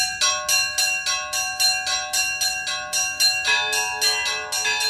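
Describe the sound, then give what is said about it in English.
Small church bells, the two smallest of a set, ring in a quick, steady rhythmic pattern set by a bell ringer, bright overlapping strikes repeating about twice a second, fairly loud with no voices. “I ring the two smallest bells, usually, and I will usually set up a rhythmic pattern, which usually sets the speed that we're going to operate at.”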